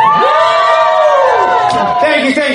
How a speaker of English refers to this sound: Hello, everyone. We all good? Can we get a round of applause if we're all good?